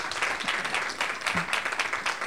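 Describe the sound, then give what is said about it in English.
An audience applauds steadily for everybody who just participated, a dense patter of many hands clapping at an even, sustained level throughout, with no voices standing out above it. “So at this point, first of all, I want to give a round of applause to everybody that just participated in that.”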